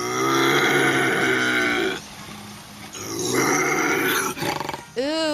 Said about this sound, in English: It was actually a bobcat.